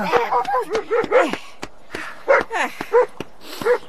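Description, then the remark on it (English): A dog named Scruff barks in a rapid, excited burst of short, high yaps, some rising into whiny yips, with brief gaps between clusters. “Scruff, you silly dog.”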